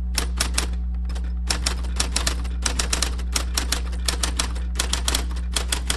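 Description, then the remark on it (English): An IBM Selectric electric typewriter with a golf ball-sized type ball, circa 1961, in a typewriter shop's display room, hums steadily underneath a rapid, uneven run of sharp typing strikes, fairly loud, with brief pauses between bursts of keystrokes. “How about that hum, huh? An IBM Selectric, the giant electric typewriter with a golf ball-sized type ball, circa 1961.”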